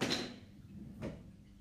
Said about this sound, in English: So, okay, that sound was me. That was the sound of, yeah, keychain.